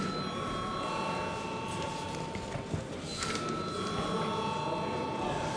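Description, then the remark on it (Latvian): A loud electric bell rings steadily without a break, a harsh metallic buzzing with a sustained ringing tone. No one speaks over it. The bell is rung in a parliament chamber to call deputies to vote on a bill in its second and final reading. “Paldies, lūdzu zvanu.”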